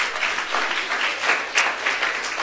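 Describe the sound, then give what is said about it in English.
A church audience claps to praise God during a sermon, steady, dense clapping for a couple of seconds, a continuous rattle of many hands with no clear individual beats and no voices over it. “If you believe that, then clap your hands and praise it.”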